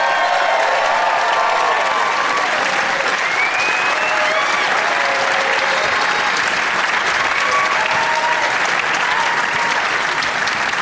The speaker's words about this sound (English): Thank you. We nailed that intro. That was for me. That applause was just for me.